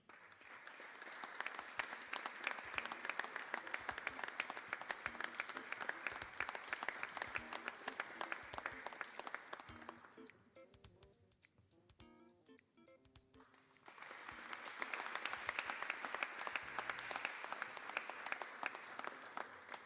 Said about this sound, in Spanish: Y el aplauso también para el primer premio,